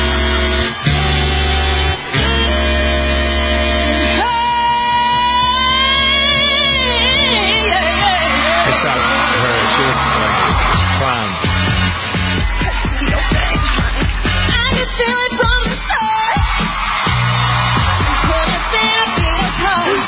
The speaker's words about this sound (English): The audience, I don't know, screaming.